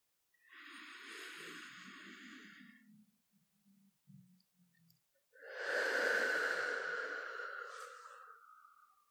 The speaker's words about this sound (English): Deep breaths, baby. In and out. Really focus on your breathing. Just feel my chest rise against your back as you breathe in with me.